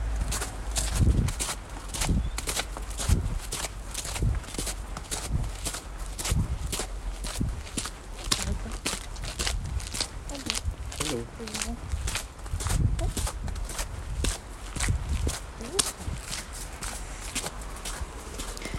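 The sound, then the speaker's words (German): Steady footsteps on a sidewalk as someone walks past a dog, each step a crisp scuff in an even walking rhythm that continues throughout, with faint murmuring voice sounds appearing briefly midway. “So, ich muss an einem Hund vorbeigehen.”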